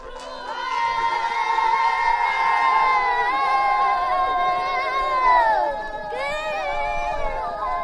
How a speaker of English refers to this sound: It's called Gingla, and it's performed by the riders, all kids from age 6 to 11. And so while they're warming up the horses, they do this encouraging or inspiring song for the horses.